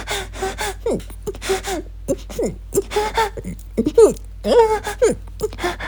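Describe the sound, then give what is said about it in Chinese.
Heavy, rapid panting and sharp gasps from a woman during sex in a dim room, fairly loud, coming in irregular bursts with brief breathy voiced tones between them; no words are spoken. “叫床一向小声，就算此时正承受着男人强有力的撞击，也只是剧烈的喘息着。”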